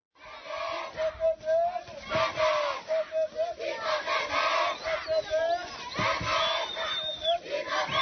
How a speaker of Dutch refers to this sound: Je moet je voorstellen, je loopt door de Sloppenwijk, waar mensen verslaafd zijn, waar zieken liggen, waar mensen doodgaan, waar van alles gebeurt. En ze proclameren de naam van Jezus.